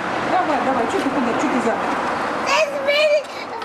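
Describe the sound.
Two young children's high voices babble and chatter while they play, with a brighter, higher-pitched squeal of vocalizing near the end over a steady background hum.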